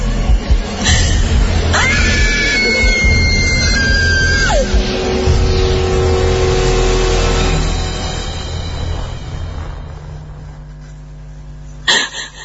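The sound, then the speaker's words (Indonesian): A terrified woman lets out one loud, sustained high-pitched scream lasting a few seconds, frightened by eerie giggling, over a constant low rumbling background that gradually quiets before a sharp thud near the end. “Aku pun yang ketakutan akhirnya menjerit sekencang-kencangnya.”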